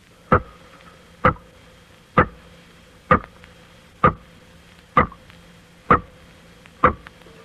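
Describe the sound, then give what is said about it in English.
Water dropping into a small tank, magnified a few million times by an electrical sound microscope: eight loud, sharp, ringing plops spaced evenly just under a second apart, with a steady electrical hum droning underneath. “Now we will let you hear those same water drops as they sound when magnified a few million times by an electrical sound microscope.”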